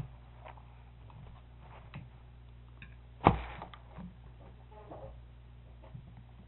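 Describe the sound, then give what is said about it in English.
A stool creaks once, sharp and brief, as someone shifts their weight, with faint scattered ticks and a steady low hum in the background. No one speaks. “I guess that must be your stool that's making that noise.”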